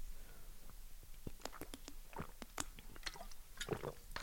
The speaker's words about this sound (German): Ich bin schon jetzt fertig, ich muss einen Schluck Wasser trinken. Hoppa, gut, dass hier ein Wasser steht.